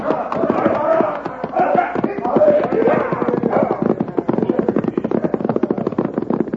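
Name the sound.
horses galloping away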